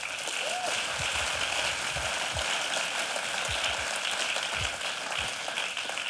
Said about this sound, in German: So, gut. Können wir der Band mal kurz einen Applaus geben?